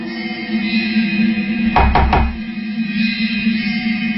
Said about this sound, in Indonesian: aku langsung menengok ke arah pintu. Melihat celah besar di bawah pintu. Kosong. Nampak tidak ada orang berdiri di depan pintu kamar gantiku. Oh, mungkin bukan pintuku yang ketuk tadi.